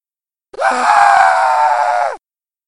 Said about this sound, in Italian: Inizia il combattimento. Crixo urlò.